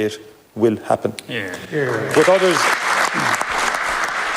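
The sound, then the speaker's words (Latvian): A voice speaks briefly in the Irish parliament hall about recognising a Palestinian state, then dense applause from a big crowd swells up and continues steadily, a loud sustained ovation with voices mixed underneath. “Ovācijas zālē ir apliecinājums tam, ka Īrijas sabiedrībā un politiķu aprindās vēsturiski ir bijis atbalsts palestīniešiem, to kopīgās vēsturiskās pieredzes dēļ.”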